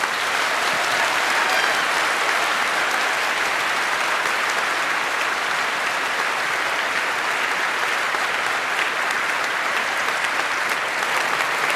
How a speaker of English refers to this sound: But before that, give a huge applause to Q and Maya.